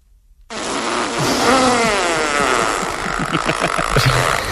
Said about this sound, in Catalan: se sent un dels pets més espectaculars que hàgiu sentit mai. A continuació, un bonic soroll de cagarrina tocant l'aigua i un crit d'alleujament d'una noia.